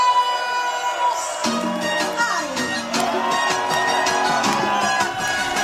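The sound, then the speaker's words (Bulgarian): Live crowd atmosphere in a venue: a loud, continuous wash of many voices with shouts, whoops and cheering, plus sharp bursts scattered throughout and steady tonal sounds running underneath. “Това беше атмосфера от заведението.”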